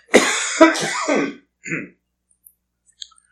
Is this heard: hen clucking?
no